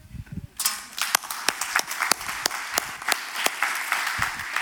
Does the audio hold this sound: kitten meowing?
no